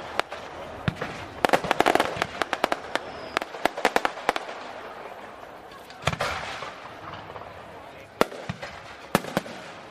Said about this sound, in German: Ein nächtliches Farbenspiel aus Raketen hält die ganze Stadt in Atem. Die Nacht wird zum Tag. Feuerwerke zählen noch heute zu den Höhepunkten der Dresdner Feste.